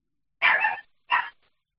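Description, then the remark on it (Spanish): Two sharp barks from a real dog on the street ring out close by, a longer one followed by a shorter one after a brief pause, loud and clear with nothing else audible around them. “Sí, hay un perro, hay un perro por aquí, vale, cerca, porque estoy en la calle, ¿sabes?”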